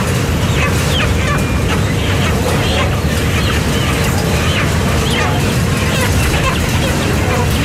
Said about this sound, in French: devant tous ces poulets qui sont vivants encore, qui sont à la chaîne et ils ont les pattes accrochées.